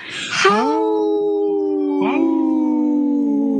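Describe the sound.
A person imitates a wolf howl: a loud, sustained tone that swoops up and holds, then a second rising howl that trails off slowly.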